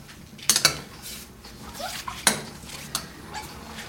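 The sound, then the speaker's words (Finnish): Utensil scraping and clinking inside a cooking pot as a large amount of nettles is stirred, with sharp metallic taps near the start and another midway, over soft swishing stirring noises. Nobody speaks. “Ja sitten, nyt pikkusen täytyy sekoittaa, koska toi oli tämä niin suuri määrä.”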